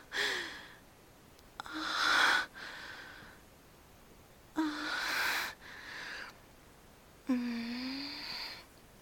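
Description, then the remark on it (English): Heavy breathing in a series of loud, breathy bursts, some carrying a low voiced moan or sigh, separated by short quiet pauses. Nobody speaks. “Your breathing is telling me you like this too, don't you?”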